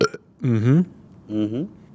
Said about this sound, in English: I see where I burped. It registered. It did.